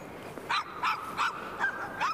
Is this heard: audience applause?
no